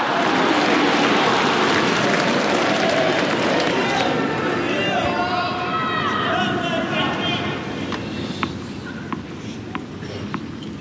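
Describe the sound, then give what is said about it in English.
A large tennis stadium crowd murmurs and chatters in a dense, steady wash of voices that eases slightly toward the end as the crowd quiets, where a few sharp, isolated taps ring out. “Finally, the crowd is quiet.”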